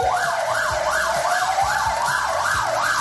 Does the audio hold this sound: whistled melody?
no